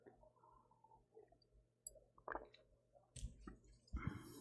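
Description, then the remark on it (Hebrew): Someone drinks water: a few wet, squishy gulps and clicks arrive in short bursts with brief pauses between them, and no one speaks. “נשתה מים, בטיול תמיד המדריכים אומרים, וגם אנשי הצבא, שתו מים.”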